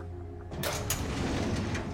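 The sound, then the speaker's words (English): A metal filing cabinet drawer in an office is pulled open, a rumbling slide starting after a brief low hum, with a couple of sharp clacks as it rolls out, before a man rifles through neatly labeled files. “He pulls open a drawer and rifles through neatly labeled files.”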